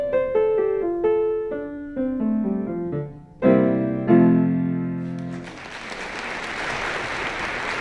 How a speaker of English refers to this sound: Rapturous. Rapturous applause, and if we didn't put that in, it was there recorded at the Sheffield Plate competition, and you won your class with that in 1978.